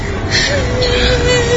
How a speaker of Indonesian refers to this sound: Sampai terdengar ada suara orang yang menangis.